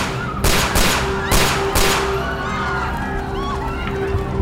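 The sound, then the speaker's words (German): Five sharp gunshots crack out in quick succession, two and then three, loud, fired at John Lennon near the entrance of his apartment building shortly before 11 pm on a Monday, followed by a lingering reverberant tail over a low steady hum. “Dann fallen 5 Schüsse.”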